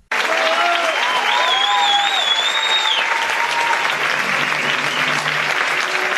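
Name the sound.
theater audience applause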